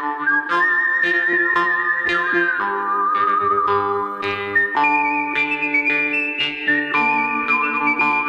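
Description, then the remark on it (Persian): A clear, loud whistled melody with long sustained notes and sliding pitch changes, backed by orchestral accompaniment and steady rhythmic percussion, in the style of a western film theme. No one speaks. “آهنگسازی فیلم‌های وسترن خیلی معروفی رو انجام داده، مثل یه مش دلار، خوب بد زش، همون ملودی‌های خیلی معروف از سوت استفاده کرده”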